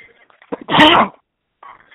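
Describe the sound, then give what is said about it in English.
A single loud, sharp sneeze bursts out after a quick catch of breath, with quiet talk faintly before and after it. “Bless you.”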